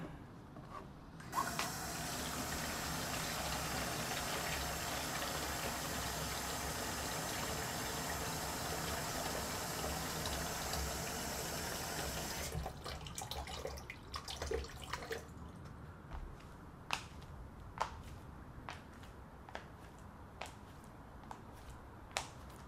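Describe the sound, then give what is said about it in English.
A steady, loud rush of running water, for warm soapy water to wash an injured man's cuts with a cloth, pours for about ten seconds, then cuts off, leaving scattered sharp drips and small clicks with no one speaking. “I should stick with the soap and water.”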